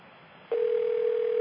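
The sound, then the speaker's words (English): A steady telephone dial tone, heard while a call is being transferred to another phone, cuts in after a brief moment of faint line hiss and holds unbroken at a constant pitch, loud, through the end. “transferring the call”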